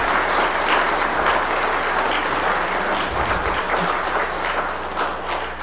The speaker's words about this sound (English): So join me in congratulating all of these graduates with a round of applause.